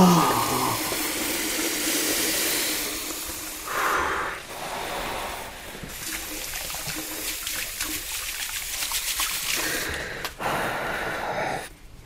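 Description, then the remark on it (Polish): Cold water streams steadily from a tap over a burned hand, splashing and hissing, with a few sharp breaths and gasps mixed in; fairly loud, with no talking. “Muszę włożyć rękę pod zimną wodę!”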